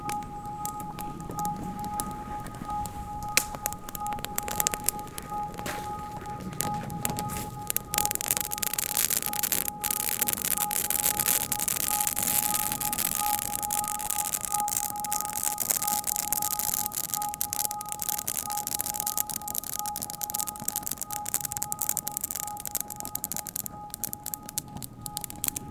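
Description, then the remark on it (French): A campfire at a bivouac in a clearing crackles steadily, with dense, irregular snaps and pops over a constant hiss, while a faint, unchanging high tone hums underneath. No one speaks. “Sentez-vous la chaleur, le crépitement.”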